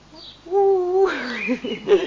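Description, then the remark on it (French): A voice imitates a little owl with a single sustained, low hooting note, followed immediately by animated French talking from the same speaker. “Ouh, ouh, ouh. Ah, c'est toi qui m'appelles, demande le petit hibou.”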